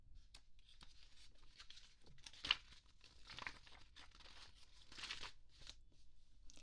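shuffling tarot cards

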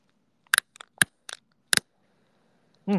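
cigarette lighter being flicked

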